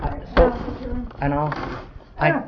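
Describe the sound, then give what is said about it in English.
A chair scrapes across the floor in a few short bursts, with a thud and then squealing, buzzy drags separated by brief pauses. “May I move the chair over?”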